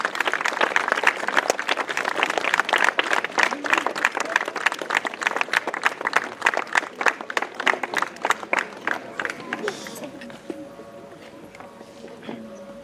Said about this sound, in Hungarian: Kérem, köszöntsük őket nagy tapssal